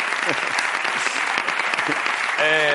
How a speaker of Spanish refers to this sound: Ronaldo Nazario, un aplauso para Ronaldo.